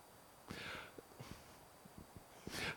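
Two sharp, breathy intakes of air, like dramatic gasps in reaction to the mention of serial killer Willie Picton, one near the start and a stronger one at the end, with a few soft clicks between them and no talking.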